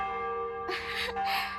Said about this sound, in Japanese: あ、ちょうど鐘が。